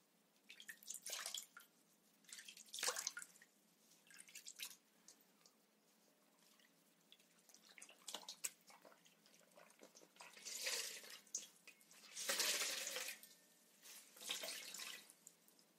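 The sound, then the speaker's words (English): Hot water, made with a heater, runs and splashes from a tap into a basin in uneven bursts, with drips and trickles between the louder gushes and no talking. The water is for preparing a hot towel. “I found this towel in your bathroom and use the heater make some hot water.”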